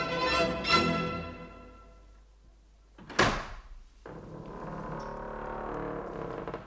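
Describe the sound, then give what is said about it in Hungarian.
A heavy dungeon door in a rock cavern creaks open with long groaning strains, lands with a loud wooden clunk, and then lets out a lingering scraping creak. No voices. “az igazság fénye mellett kitárta a másik tömlöc ajtaját is.”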